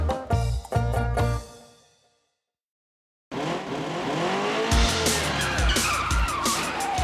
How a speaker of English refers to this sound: This is a car.